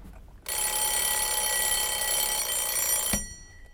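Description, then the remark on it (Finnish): A morning wake-up alarm clock in a three-star hotel room in mainland Europe rings continuously for nearly three seconds, a loud, bright, buzzing metallic jangle that starts abruptly and cuts off with a click, with no talking. “Ensimmäinen aamuherätys Manner-Euroopassa on siitä armollinen, että aika ero pelaa nukkujan pussiin.”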